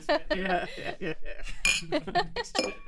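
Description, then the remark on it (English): Glasses clink together in a toast, a few bright chinks with a faint ringing tail, mixed in with chuckling and overlapping talk. “Is this the closing? is this the closing statement? Is this where we cheers?”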